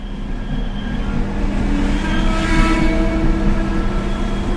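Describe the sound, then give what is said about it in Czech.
Steady outdoor traffic rumble in front of a railway station building, with a vehicle passing, engine noise swelling and fading over a broad continuous wash of street sound, no voices. “stán jsme před nádražní budovou, ale i tady se bude kopat, budovat”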